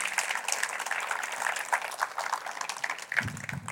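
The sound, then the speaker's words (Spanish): An audience applauds the Lord for his faithfulness, a dense wash of many hands clapping at once with no clear rhythm, holding an even loudness throughout; a low rumble joins near the end. “Si alguien lo cree, puede decir un fuerte amén y darle un aplauso al Señor por su fidelidad.”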